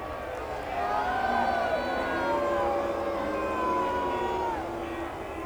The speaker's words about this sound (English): Now these folks up here just don't approve of it. You can hear them booing.